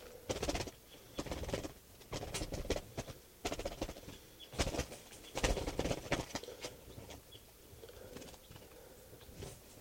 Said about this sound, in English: This is bird 648.